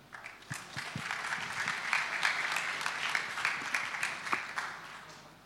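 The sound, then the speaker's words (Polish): Steady audience applause at the Imagine Cup finals in Poland as a speaker from Microsoft is invited onto the stage: a dense wash of many hands clapping at moderate volume for several seconds, with a few sharper individual claps standing out and no one speaking. “Brawa.”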